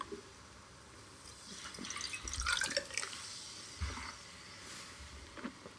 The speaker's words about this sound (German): Aber ich muss auch mal mein Gläsel ausspülen. Nicht, dass wir da beeinflusst werden.